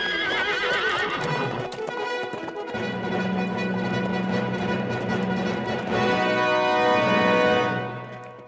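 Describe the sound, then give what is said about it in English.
Rapid clip-clop of hooves gallops steadily while the horse, Silver, of The Lone Ranger, lets out high, wavering neighs, the whinnying strongest near the start and again toward the end as the hoofbeats carry on loudly. “Hi-yo, Silver! Away!”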